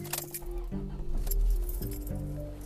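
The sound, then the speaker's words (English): Keys jingle and clink as a car engine turns over and settles into a low, steady rumble, the jangling scattered in quick bursts above the motor's hum. “I'm about to turn the car, so it's gonna get a little noisy.”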